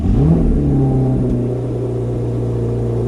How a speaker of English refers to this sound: You're also going to fake the sound effect when I open the door. Yep. And the engine noise.